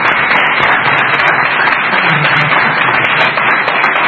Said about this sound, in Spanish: Se merecen, un aplauso, mil aplausos por lo menos.